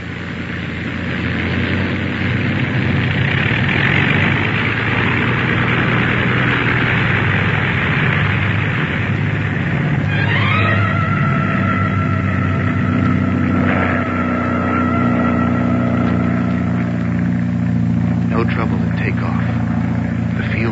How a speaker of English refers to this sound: Give her another listen to her, will you? What do you think? Rev her up again. We'll listen once more. Well, the engine's doing as well as you can expect in this weather.